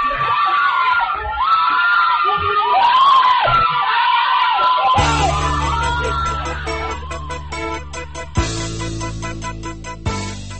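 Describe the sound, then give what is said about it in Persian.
A crowd of protesters screams and wails in panic during the Ashura 88 protests as a police van runs over a man, many overlapping loud voices rising and falling for about five seconds before giving way to a steady music bed. “دنده عوض می کند و از روی مرد می گذرد و فریادها رنگ فوقان می گیرد.”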